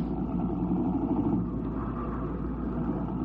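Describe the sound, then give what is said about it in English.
A car engine hums steadily at a low pitch as the vehicle, just thrown into gear, works its way through the 8:30 traffic, a continuous rumbling drone with faint road noise and no voices. “He threw the car into gear, and then they were worming their way through the 8:30 traffic.”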